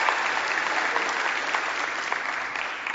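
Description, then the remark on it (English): A crowd claps steadily for a few seconds, a dense wash of many hands applauding at once, sustained without a break. “She deserves a big hand of applause.”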